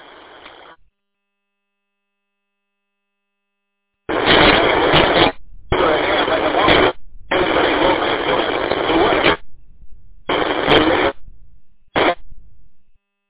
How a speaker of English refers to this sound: Oh, you got static.